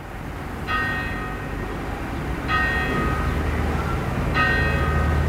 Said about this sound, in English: That's Truman's clock. It's been there since 1666. Always dead on.